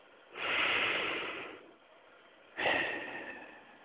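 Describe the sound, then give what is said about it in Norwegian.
A long, deep breath drawn in through the nose, down into the body, lasts over a second, then after a pause a second breathy rush begins, airy, with no talking. “Ta et dypt åndedrag, langt ned i kroppen.”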